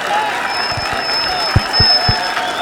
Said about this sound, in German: Applaus bitte!